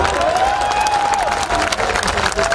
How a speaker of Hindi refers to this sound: मैं आज इस मंच से कहने वाला हूं, मैं सूचना देने वाला हूं, मैं कहीं नहीं जा रहा हूं। अगर मैं कह रहा हूं उस पर आपकी तालियां उठें।